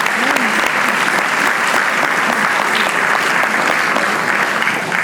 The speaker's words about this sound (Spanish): Dale un aplauso al Señor, dáselo fuerte, porque el Señor es vida.